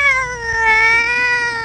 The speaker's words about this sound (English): It's not just a mewing kitten, but a real cat's meow that keeps you awake at night.